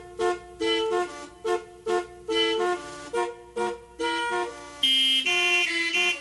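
A series of blaring car horns from the Car Horn Organ of Wendy May Chambers, an experimental keyboard instrument built from car horns, sounding in sequence like keys on an instrument, pitched tones forming a halting melody with short pauses between notes, ending in a louder sustained chord of honks.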